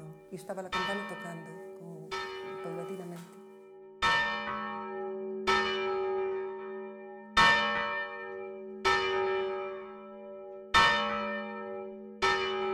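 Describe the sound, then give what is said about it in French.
A church bell, the local carillon called Esquilón, rung before the 8 o'clock mass to call the canons, tolls in slow, steady strokes, about seven resonant strikes whose bright, humming tails overlap as they fade, with a faint murmur of activity in the first few seconds. “Nous avons encore notre carillon local appelé Esquilón. Il retentissait avant la messe de 8 heures pour appeler les chanoines et la cloche sonnait progressivement.”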